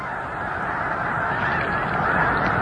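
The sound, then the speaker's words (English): A dense, continuous chorus of snow geese honking as small flocks arrive and swirl above the landed birds seeking a place to land, many calling over one another at once, steady and fairly loud throughout, with no talking. “Yeah, there are 5 snow geese arriving.”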